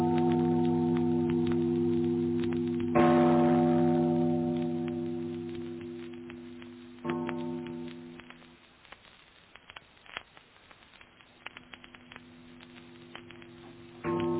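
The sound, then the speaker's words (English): A large tower bell tolls with rich, lingering overtones, struck again a few seconds later, each stroke ringing out loudly before slowly fading to a faint hum with scattered soft taps. “Father, listen to the bell. Listen to the bell. It rings in sight of her.”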